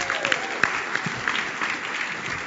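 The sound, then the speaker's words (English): A crowd claps steadily for a woman, dense overlapping hand claps forming a continuous wash of applause with a few sharper individual claps standing out. “Let's give her another round of applause.”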